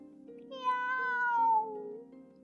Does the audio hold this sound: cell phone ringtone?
no